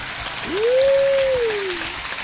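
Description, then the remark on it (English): A recorded crowd applause effect, a steady wash of clapping, with a single sustained whistle that slides up, holds and dips away over about a second and a half. “It's just applause music that we ran this long.”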